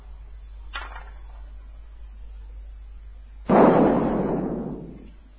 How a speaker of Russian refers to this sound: В небесах расцветает фейерверк.